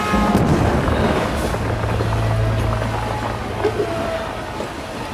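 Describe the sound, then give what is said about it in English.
A train lurches and crashes through a tunnel, heard from inside a boxcar, rumbling loudly and steadily, a dense low roar with a droning hum beneath it. “The train lurches, then crashes through the tunnel.”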